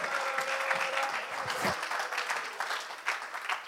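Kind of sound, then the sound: crowd, audience clapping hands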